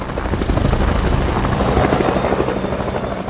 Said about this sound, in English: A helicopter flies over the Baxter building where guests are gathering on the rooftop for the wedding.